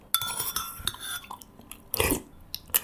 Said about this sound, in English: This sound that you heard is called slurping. My little secret, sometimes I slurp when I eat soup.